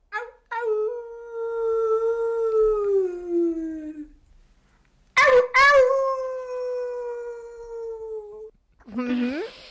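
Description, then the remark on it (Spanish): A coyote howls in long, clear wavering notes that slide slowly downward, two sustained howls separated by a brief pause, with sharp yips at the start of the second and a short cry at the end. “Bueno, diría que es un coyote, pero bueno.”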